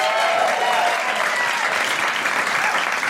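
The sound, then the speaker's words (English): Steady, dense applause from an audience fills the whole stretch, loud, a continuous wash of many hands clapping without pause or spoken voices. “Big round of applause”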